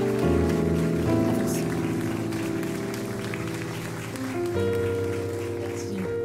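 An audience claps steadily throughout, a dense crackling patter mixed with sustained chords of music that shift a couple of times, the whole scene staying loud and continuous.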